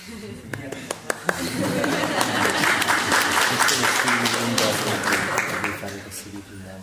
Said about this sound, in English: This is your chance for everyone to clap for you.